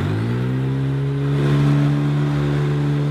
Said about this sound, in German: Für unser Staubsaugergespräch hier hören wir einen Hoover mit tiefem Brummen. Klingt er wie ein Rasenmäher.